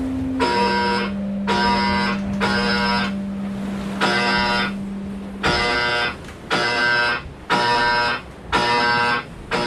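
A loud electronic load alarm on a sailboat buzzes in repeated harsh pulses, about eight bursts with short gaps, over a steady low hum; the pulses quicken toward the end. It signals too much load on the boat, meaning the foil must be raised. No one speaks.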